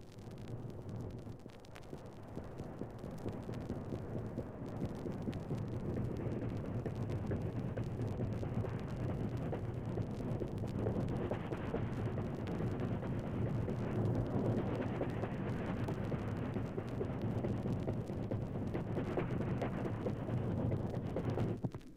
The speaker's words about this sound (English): Oh, here's the sound. Remember this one? This is the one that used to put you to sleep, the clickety-clicks of the wheels.